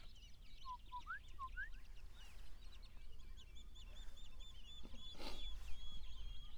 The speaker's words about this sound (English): gorgeous bush rat calling.